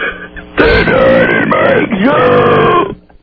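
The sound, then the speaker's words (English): A single long, loud burp performed as a special talent by a woman from Kansas, stretched out for over two seconds, its pitch wavering and dipping like a groaning moan, heard on its own without talk. “I can burp something very special for you.”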